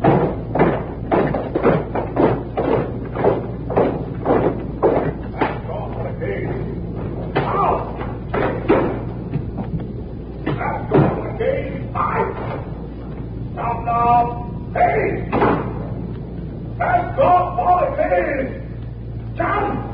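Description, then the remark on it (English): Doors in a hall at CBS are shut and slammed again and again for the weekend closing, a rapid, irregular string of loud bangs and thuds over a low steady hum, with voices talking and calling out in between. “I'm getting the signal now, so it's out to the hall here for the weekend closing of the doors here at CBS.”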